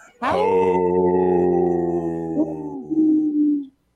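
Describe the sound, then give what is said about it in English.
A human voice imitates an older wolf's howl using a lower voice: one sustained, steady low tone lasting over three seconds with a slight wavering dip before trailing off, loud. “You see, I did a older wolf with a lower voice there.”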